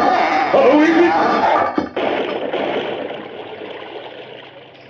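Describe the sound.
In a Lone Ranger radio drama, a loud, steady rush of water pours into a well continuously, briefly cutting out near the middle before surging on, with faint shouting voices mixed in at the start.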